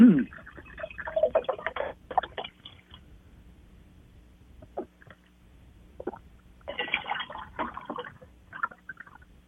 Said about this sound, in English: Okay, I'm back. So, let me just pour this water in here.